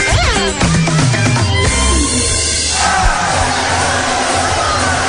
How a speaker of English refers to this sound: Here in New Bremen, I feel like I'm on the roller coaster ride. I mean, when the crowd, the student section to my left goes nuts, which they're enjoying themselves, it sure rocks the table I'm at.